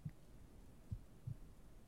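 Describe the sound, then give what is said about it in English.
A soft, muffled heartbeat heard with a head pressed against a person's chest, low and dull, with a few steady beats spaced about a third of a second to a second apart over a faint background hum. “Can you hear my heartbeat like this?”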